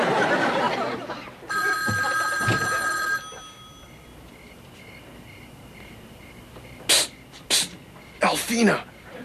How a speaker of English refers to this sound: Never fail. Sit down to a nice home-cooked meal, the phone rings.